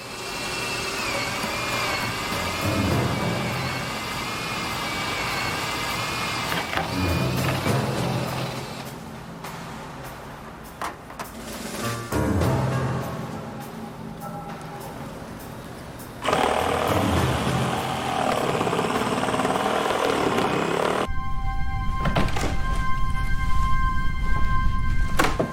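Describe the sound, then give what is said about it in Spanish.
A top-of-the-line electric saw and cordless drill with special noise-reducing motors run in turns for about 25 seconds, cutting into the rooftop of a downtown bank, a steady loud mechanical whine and grind that shifts in pitch between bursts, ending in a higher droning buzz. “Llevaba una sierra eléctrica y un taladro inalámbrico de primera línea con motores especiales que reducían el ruido.”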